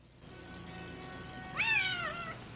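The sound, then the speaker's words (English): A single meow from Cleo, a cat wearing a collar with a name tag who lives at Benjamin Rosen's antique store, rises and then falls away. It is clear and lasts under a second against a quiet, steady background with no one talking. “Nice kitty. Are you lost? Let me check the tag on your collar.”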